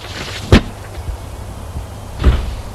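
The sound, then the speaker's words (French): A house door opening after the doorbell and footsteps: a sharp latch click, then about two seconds later a heavier, slightly drawn-out thud, with faint hiss between the sounds. “On a sonné, des pas, la porte.”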